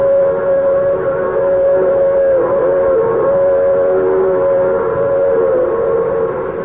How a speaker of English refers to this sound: Every day, I close my office at 5 o'clock and go down to the tracks and watch the 516 go by.